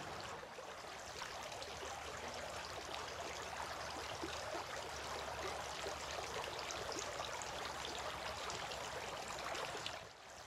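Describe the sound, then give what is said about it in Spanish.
Water pours in a steady, continuous splashing stream, fairly loud, over hands being washed three times as part of Islamic ritual ablution, lasting about ten seconds before cutting off, with no voices. “vertía agua sobre sus manos y las lavaba tres veces.”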